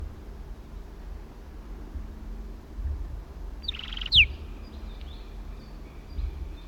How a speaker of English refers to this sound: Southern lapwings.